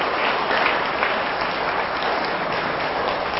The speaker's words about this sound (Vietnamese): Nếu quý vị thấy những điều đề nghị thực tập đó là có thể thực hiện được trong tầm tay thì hãy dâng cao một tràng vỗ tay thật lớn nào.